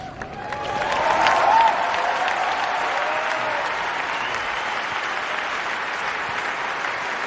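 A large stadium crowd applauds fervently at tennis player Roger Federer's emotional farewell: a dense, steady roar of clapping that swells in the first second or two and then holds loud and unbroken, with a few faint cheers mixed in.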